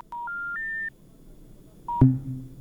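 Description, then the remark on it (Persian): A telephone line's call-drop signal as a listener's call to a Radio Azadi call-in program is cut off: three steady beeps stepping upward in pitch, a pause, then a short tone cut off by a sharp click and a low, buzzing hum. No one speaks. “تماس تلفنی شنونده ما قطع شد.”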